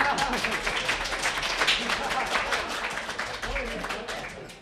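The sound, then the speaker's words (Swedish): A crowd applauds a singer as he leaves the stage, steadily for several seconds, a dense, even patter of many hands clapping at moderate volume, with faint voices mixed in before it begins to fade at the end. “En liten applåd för att han går ut varje fall.”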